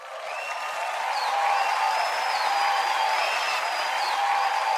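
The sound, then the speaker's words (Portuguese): A sustained round of applause with dense, steady clapping that swells at the start and holds loud throughout, with a few high whistle-like tones riding over it and no talking. “Uma salva de palmas.”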